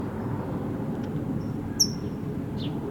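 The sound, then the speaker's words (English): A brown towhee gives a few sharp, high chip calls, one clearly louder than the others, scattered over a steady low rumbling background noise. “Yes, red, yellow, green is the towhee that's chipping.”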